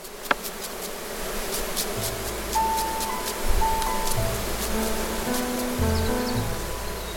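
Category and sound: insect, honeybees buzzing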